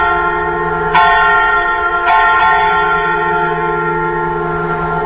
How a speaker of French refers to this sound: Effectivement, ouais, en plus, oui, les cloches de Notre-Dame, effectivement. En sachant qu'il recrée ça à partir du texte, hein, il va pas pointer ça.